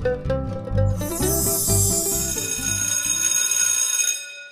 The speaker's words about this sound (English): The school bell rang.